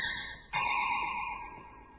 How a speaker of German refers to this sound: Ene mene, falscher Ton. Es klingelt jetzt das Telefon. Hex, hex.